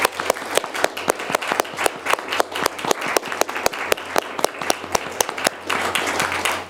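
An audience at a musicology gathering breaks into sustained applause to thank a supporter who is present, many hands clapping in a dense, crackling wash, with sharper individual claps standing out throughout and no voices over it.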